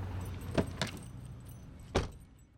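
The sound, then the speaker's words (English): Keys jangle in a few short, bright metallic bursts, two close together and then one more after a pause, as someone finds keys they could not find, over a low rumbling background like an idling car. “can't seem to find my keys. Well, you will find comfort in this, at least. Your brain, Seth, actually evolved to forget. Oh, wait a minute, here they are”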